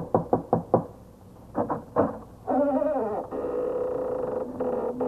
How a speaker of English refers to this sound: It's just an old house. Here, I'll knock on the door.